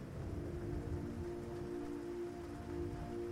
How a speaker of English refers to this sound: The rain pours down, and all you can do is keep the bow of the boat facing all of the waves that are coming at you.